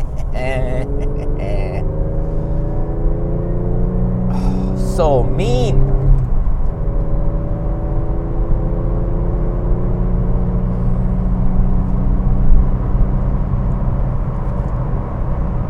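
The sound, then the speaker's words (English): A loud car engine drones and revs, its rumbling pitch rising and shifting as it goes past, with a person speaking briefly over it. “Oh, listen to this car.”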